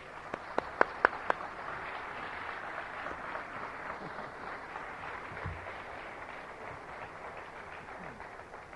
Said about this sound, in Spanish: Así que lo recibimos a nuestro hermano, ¿qué les parece? Con un fuerte y caluroso aplauso.